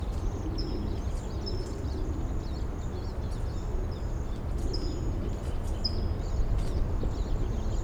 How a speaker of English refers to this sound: So recording, I hear a flock of siskins in the back, perhaps coming this way.